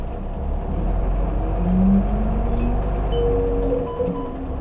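A heavy engine of a Keisei Transit bus rumbles steadily, its pitch climbing as the bus pulls away from a stop after its doors close. Low drone dominates throughout with a faint high whine near the end.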